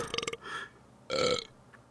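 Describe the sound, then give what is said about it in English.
A couple of loud belches: a rough, rattling burp followed by a short pause, then a longer, smoother one that trails off into quiet, with no talking. “But first, some belches.”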